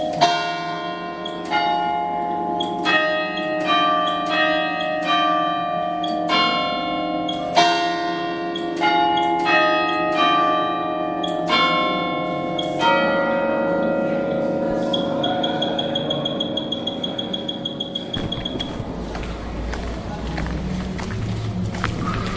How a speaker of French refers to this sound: nous sonne les cloches à l'église de Saint-Julien-Molin-Molette.